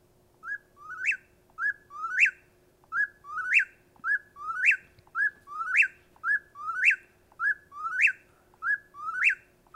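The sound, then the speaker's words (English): An eastern whip-poor-will sings its three-part whistled phrase over and over in a steady, rapid rhythm, clear, with a faint low hum behind it. “we have an eastern whippoorwill, I think, that Jeff's got. Let's hear that.”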